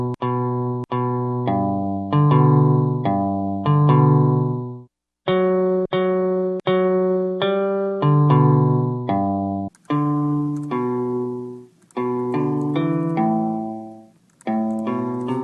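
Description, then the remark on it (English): Plucked notes from an online guitar, played on a computer with the mouse or keyboard shortcuts, ring out one after another in a steady, tuneful sequence, each with a sharp twangy attack and a quick fade, pausing briefly twice, with no voices. “you can pluck along at your computer, move your mouse over the strings, or use hidden keyboard shortcuts”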